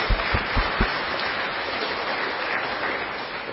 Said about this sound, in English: So to Robbie and Tony and the rest of you, let's give them a round of applause because they are under a lot of stress.